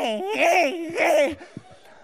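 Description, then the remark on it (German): A voice imitates a baby's loud wailing cry in two rising, warbling bursts, strained, then trails off into a few soft breaths. “Von diesem Geräusch wird der ganz Kleine aufgeweckt und er wechselt sofort in die Motorsäge.”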